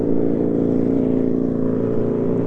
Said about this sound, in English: Listen to the cars go by. Here's a motorcycle.